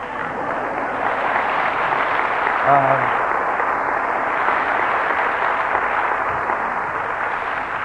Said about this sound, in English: So we hope that you are supportive of that position. And I'm not asking you for an applause, but if you would like to.